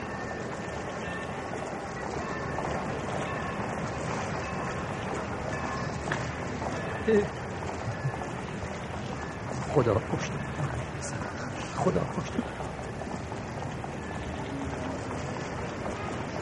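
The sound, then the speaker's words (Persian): A steady, broad mechanical rumble of the Tehran–Ahvaz passenger train pulling out of Tehran station fills the background throughout, with a man's voice calling out repeatedly over it and a few brief knocks. “قطار مسافری تهران اهواز 1 دقیقه دیگر از ایستگاه تهران حرکت میکند.”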